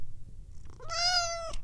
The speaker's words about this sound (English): Gotta have conversations with my cat, who thinks she wants to go outside and play in the snow and water and mud just to play with birds.